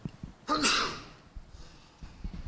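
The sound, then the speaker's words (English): A single sharp, loud sneeze bursts out, a hissing blast that fades over about half a second, with faint murmuring sounds before and after. “Gesundheit.”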